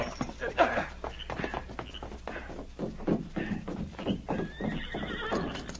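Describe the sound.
Horses whinny and snort as riders rein them up after dark in front of an office, hooves clopping to a halt, a shrill neigh rising near the end, with brief muffled voice sounds mixed in.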